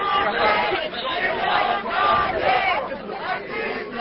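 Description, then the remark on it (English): A large Palestinian protest crowd, marching through outlying fields to where a separation wall is being built, chants and shouts together in rising and falling waves, loud, with many overlapping voices filling the scene without a break. “And so the crowd marches through the outlying fields to where the fence or separation wall, as some call it, is being built.”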